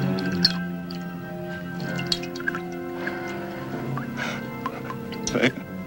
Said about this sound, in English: As the priestess slits the bird's throat, the girl gasps. Blood drips from the cockerel's beak into the chalice.